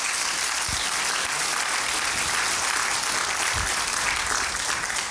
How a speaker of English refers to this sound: come on, clap your hands and give God the glory.